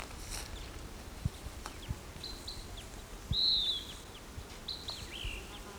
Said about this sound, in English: Okay, I just recorded that bird, so he's still calling a little bit.